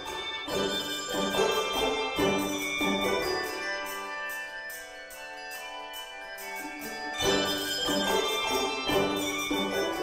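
A handbell choir rings a piece of music, with bright, sustained chiming tones struck in rhythmic clusters. A softer, sparser passage in the middle gives way to fuller ringing again.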